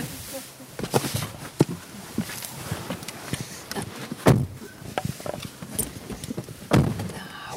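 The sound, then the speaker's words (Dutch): Footsteps shuffle and knock on a hard floor as a mother and her partner go inside, followed by a couple of solid thuds like a dark blue front door swinging shut, with faint indistinct voices murmuring underneath. “De moeder van Marek en haar verkering verdwijnen weer achter de donkerblauwe voordeur.”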